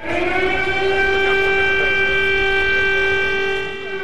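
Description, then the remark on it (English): A siren in Kyiv on Wednesday, sounding as US Secretary of State Antony Blinken, UK counterpart David Lammy and President Volodymyr Zelensky were meeting, gives one loud, steady, sustained tone with rich harmonics and almost no change in pitch, holding for the whole stretch before easing slightly at the end. No one speaks. “That siren sounded as the US Secretary of State Antony Blinken, his UK counterpart David Lammy and President Volodymyr Zelensky were meeting to discuss”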